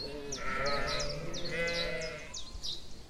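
Sheep feeding on an extensively used meadow bleat in overlapping, wavering cries, several animals, with short high chirps of birdsong scattered above and a steady outdoor background beneath.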